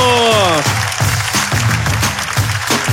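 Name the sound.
applause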